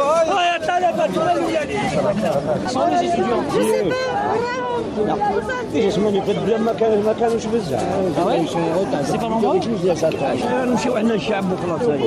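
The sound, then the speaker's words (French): Dense crowd chatter from a street protest gathering at Place des Martyrs, with students mixed into the crowd awaiting the start of the Tuesday march; many overlapping voices form a steady, loud hubbub with no single speaker standing out, continuous throughout. “On finira par les trouver, ces étudiants mélangés à la foule en attendant le top départ de la marche du mardi.”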